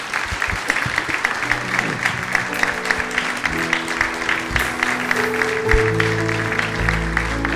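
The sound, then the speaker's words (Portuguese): An audience applauds the Lord in a steady, dense wash of clapping, while sustained musical tones, like an organ or keyboard, rise underneath and grow louder toward the end. “Vamos aplaudir o Senhor, vamos.”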